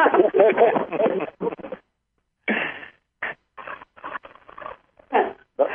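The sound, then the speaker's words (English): A person imitates dolphin squeaks with a string of short, high, chattering vocal bursts, broken by brief pauses into an irregular, excited rhythm. “No one else wants to make a dolphin sound, huh?”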